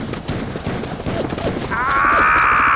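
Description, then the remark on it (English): A helicopter's rapid rotor chop fills the scene, loud, over a chaotic mix of shouting voices, then a high mechanical whine swells in near the end. “There's the chopper.”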